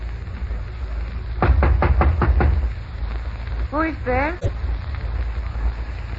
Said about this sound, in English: He wound me through a couple of streets, ended up at a small hotel called the Dynasty. He disappeared into room 212. A few seconds later, I knocked on the door.